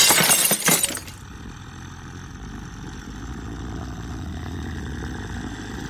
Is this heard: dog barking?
no